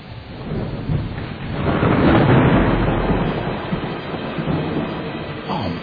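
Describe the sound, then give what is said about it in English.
A deep, rumbling roll of thunder from nearby lightning swells to a loud peak within a couple of seconds, then slowly fades into a steady low rumble. “Man, I think that lightning even made that fuzzy hop.”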